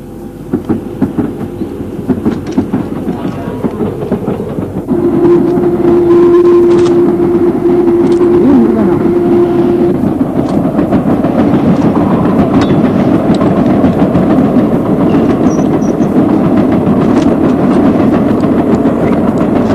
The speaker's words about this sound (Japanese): 感想としては、 そう、僕この電車好きだったからちょっと寂しいですね。